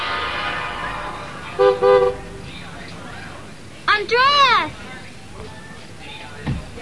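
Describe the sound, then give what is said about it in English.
A train horn gives two short toots, then a longer, louder blast that swells and bends in pitch, all over a steady low rumble of a train to Nashville, Tennessee pulling in. “Ah, there's your train now. You should hurry up.”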